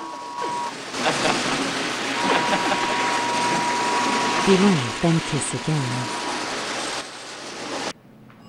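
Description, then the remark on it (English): A small motorized toy train set, accidentally set off, whirs and clatters steadily for several seconds with a faint high electric hum, while a voice speaks briefly over it before it cuts off. “They kiss passionately and accidentally set off the train set.”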